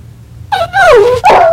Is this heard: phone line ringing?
no